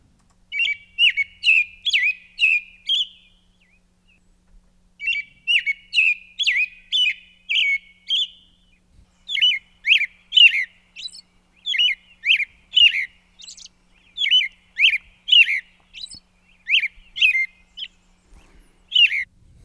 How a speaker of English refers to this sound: Next up, a classic bird. You'll probably see them picking up worms in grassy fields. This is the American robin.